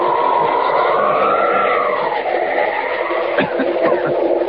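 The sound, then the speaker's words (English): A moving train rumbles loudly and steadily along the tracks close by, with a drifting metallic whine over the roar and a few sharp clacks toward the end. “Down and right next to the train.”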